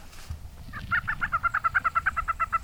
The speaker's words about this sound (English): We heard plenty of lesser prairie chickens, but we didn't see any lekking, which disappointed all the bird watchers. The game birds might have been spooked by a noise we made or our silhouettes in the tent. They're elusive